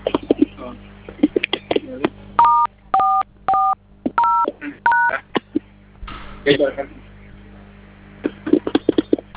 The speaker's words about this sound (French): Vous avez votre téléphone en main, vous composez à nouveau, vous me dites ce que vous voyez, s'il vous plaît.